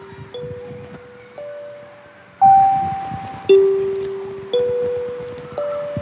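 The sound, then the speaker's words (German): A school bell chime plays a slow melody of about six clear tones, each ringing out and gently fading before the next, fairly loud over a low murmur of background noise. “Jetzt läutet sie.”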